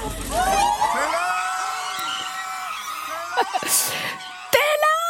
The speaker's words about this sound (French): Prenons un exemple. Tiens, on va écouter des cris de fans.